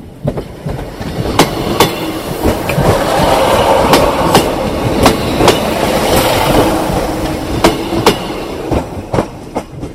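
A ScotRail Class 156 diesel train, unit 156-499, rumbles steadily along the track, sharp clacks from the rail joints ringing out in uneven pairs and clusters over the continuous roar of engine and wheels; no one speaks.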